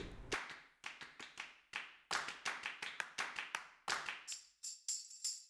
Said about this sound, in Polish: Z tłumionych tomów też są pałki, też są klaśnięcia.